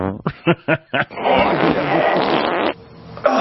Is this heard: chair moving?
yes